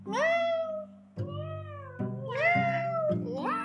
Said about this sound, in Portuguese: A gatinha Ayô começou a miar.